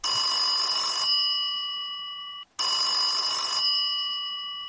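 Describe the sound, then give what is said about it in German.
A telephone ring tone sounds twice during an outgoing call, each burst a bright, steady multi-tone ring lasting about two seconds with a brief gap between, heard clearly and alone as if through a phone line. “Ich habe schon gehört, du wusstest schon, dass ich dich anrufe in einer Notsituation.”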